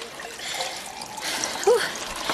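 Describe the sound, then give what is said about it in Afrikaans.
Water pours steadily into a glass in a coffee shop, a continuous bright trickling splash lasting a couple of seconds, with a small clink near the end and no one speaking. “Wil jy water hê? Ja, dankie.”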